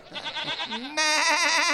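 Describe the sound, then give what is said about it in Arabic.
A goat bleats in one drawn-out, quavering call, wavering at first and then swelling abruptly louder for the final second, with no talking over it. “ولا أستطيع أن أتكلم مثل المعز.”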